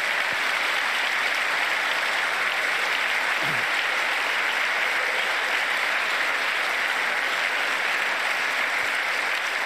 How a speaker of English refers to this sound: I mean, at least he's clapping mildly, very, very mildly, with no enthusiasm. I guess he's clapping for the idea of ending cancer.